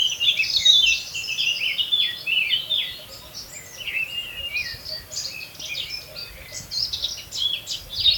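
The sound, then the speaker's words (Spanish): A common blackbird sings steadily from a nearby prominent perch along a riverbank, among a busy chorus of high, bright chirps and warbles, the phrases continuing without pause, with no voices present. “De vez en cuando, el solista de nuestras riberas, el mirlo, airea su canto a los cuatro vientos desde alguna atalaya cercana y prominente.”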